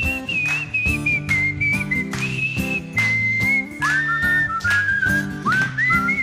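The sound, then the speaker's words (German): A bright whistled melody carries a tune over a steady, rhythmic musical backing, loud and continuous, with a second whistled line joining partway through. “Los, alle mitpfeifen, weil wenn wir pfeifen, sehen wir alle gleich scheiße aus.”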